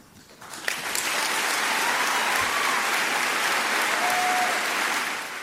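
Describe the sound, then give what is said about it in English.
A crowd at Benedictine College breaks into steady applause for a line in a speech; it swells within the first second and holds loud and dense for several seconds, with a few faint whistles cutting through near the end. “A sustained applause for that line, oh, by the way, at Benedictine College.”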